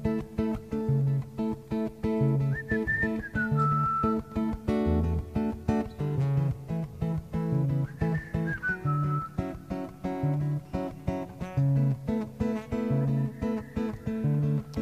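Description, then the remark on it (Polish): An audience whistles a melody together in short gliding phrases on a leader's signals, heard over steady rhythmic instrumental backing that keeps a bouncy beat throughout. “Ja będę dawać Państwu znaki i Państwo wtedy będą ją gwizdać.”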